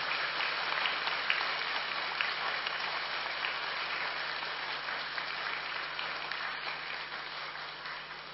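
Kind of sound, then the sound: crowd, long loud applause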